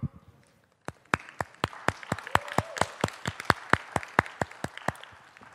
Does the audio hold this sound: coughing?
no